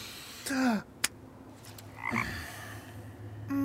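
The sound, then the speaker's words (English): A frog croaks three times in short, throaty bursts spaced a second or so apart, fairly loud, with a single sharp click between the first two calls and no talking. “That's a frog.”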